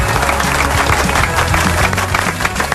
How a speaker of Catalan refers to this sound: Molt bé. Molt bé, un aplaudiment